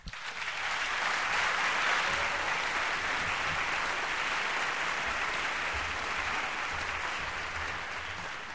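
Steady, sustained applause from an audience, a dense wash of many hands clapping that swells quickly and holds at a fairly even level for several seconds, tapering only slightly at the end.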